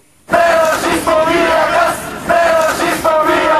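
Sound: protest crowd chanting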